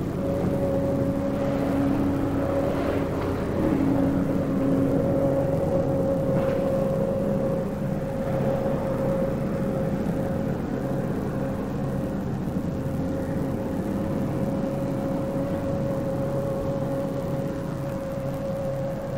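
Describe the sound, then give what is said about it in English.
A street sweeper coming in drones steadily for the whole stretch, a heavy motor rumble with a high, sustained mechanical whine, loud, with no one speaking. “The street sweeper's coming in.”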